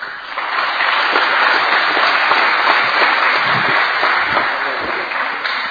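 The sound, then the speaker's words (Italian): At an awards ceremony for young athletes, a crowd applauds steadily for several seconds, a dense, even wash of many hands clapping that holds at a strong level throughout before easing slightly at the end. “Bene, un applauso adesso a tutti questi ragazzi insieme, mi sembra che è dovuto da parte nostra.”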